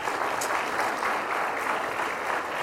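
A crowd claps steadily, a dense, even wash of many hands with no breaks, holding a constant moderate level throughout without any voices.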